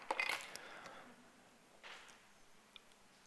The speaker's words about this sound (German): Ich nehme den Schlüssel von meiner Mutter und packe ihn in den Safe.